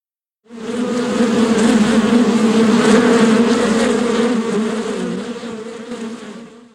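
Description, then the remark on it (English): A dense swarm of bees buzzes loudly and steadily, a thick droning hum with shifting tones that swells in and holds for several seconds before easing slightly toward the end. “They quickly hid, and after a minute, the bees arrived and started to sting the Tin Man.”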